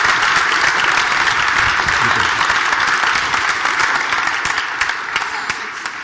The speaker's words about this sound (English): Okay, everybody, if you want to give them a round of applause, and then you can sit down.